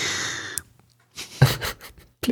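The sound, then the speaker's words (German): A hiss fades into a single sharp click as a magnetic frame snaps into place, followed by a short run of rustling handling noise and another brief snap at the end. No voices. “Moment, nee, es macht am Schluss ja noch so ein Geräusch. Moment, es macht so.”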